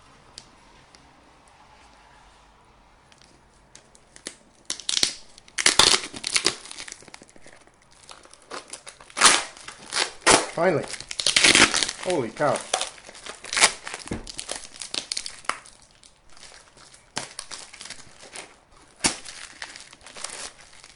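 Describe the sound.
Packing tape, run around a box in more than one direction, is peeled and torn off in a run of loud ripping and crackling bursts. A person speaks briefly between the tears.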